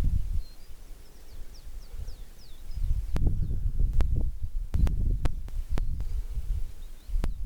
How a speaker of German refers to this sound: Das war eben sehr noch lauter, die Piepmetze. Sie sind hier recht in den rechts von mir in den Pinien, große Pinien, und sie sind nicht zu sehen.